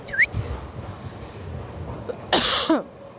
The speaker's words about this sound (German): Ja, entschuldigt, jetzt habe ich genau ins Mikro gehustet. Ich kann das nicht mehr koordinieren.